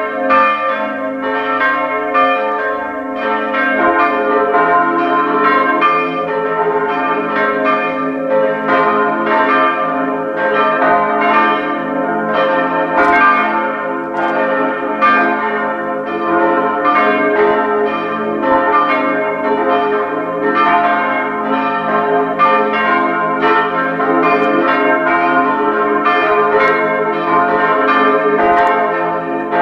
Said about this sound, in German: Es ist 12 Uhr. Sie hören die Glocken der Pfarrkirche Meckenhofen in Oberösterreich.